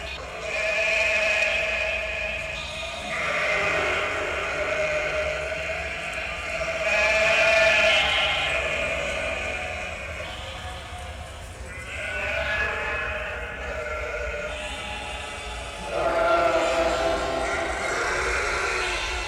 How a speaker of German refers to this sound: In einem der Container hörte man ein Konzert von 200 Schafen.